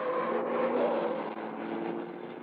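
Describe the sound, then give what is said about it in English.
A car engine drones steadily as the vehicle turns around, a continuous low hum with a slight swell in the middle and no voices. “Wait, that's a police car ahead of us. Turn around, quickly.”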